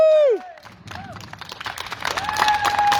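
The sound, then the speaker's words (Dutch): A crowd breaks into applause for all the nurses, swelling steadily louder, with dense clapping, scattered cheers and a few high whistles rising and falling over the noise. “Ja, dus ik wil eigenlijk wel een groot applaus voor alle verpleegsters en alle verplegers.”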